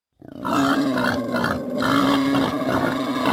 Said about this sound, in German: Wildschweine, sogar mittlerweile richtig viele, wohnen schon in Berlin.